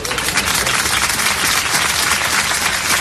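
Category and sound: crowd, applause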